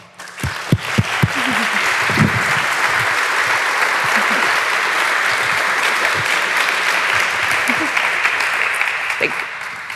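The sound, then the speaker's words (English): An audience welcomes a speaker before a talk on the representation of marginalized communities in data, clapping steadily for about ten seconds, a dense, even wash of many hands with a few sharp individual claps at the start, holding at a constant loudness before tapering slightly. “let us give Zara a warm round of applause”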